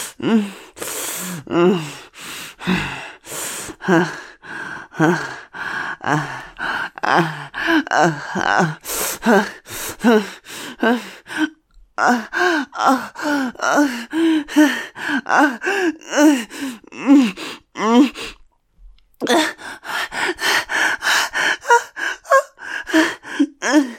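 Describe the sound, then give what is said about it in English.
Heavy, gasping breaths come in a rapid, continuous series, loud, some strained and partly voiced, with only a couple of brief pauses and no speech. “Remember to breathe. Don't let your breathing get away from you.”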